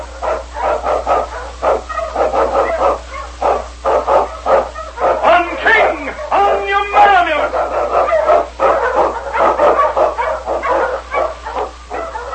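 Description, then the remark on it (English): King, a sled dog of the Eskimo League, barks excitedly and almost continuously, loud, with rapid yapping bursts and a drawn-out whining yelp midway, over a steady low hum, as he blazes a trail through storm and snow. “Underdog King, swiftest and strongest of Eskimo League dogs, blazes a trail through storm and snow for Sergeant Preston as he meets the Challenge of the Yukon.”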